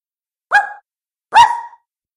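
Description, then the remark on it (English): Two short, high-pitched puppy barks, one after another with a brief pause between, fairly loud against silence, with no talking. “A rat? No. Ugh. A pup?”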